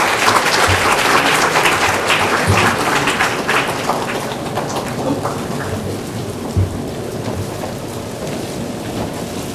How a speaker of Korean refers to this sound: 네, 이들이 인사할 때 박수로 축하해 주시고 축복해 주시기 바랍니다.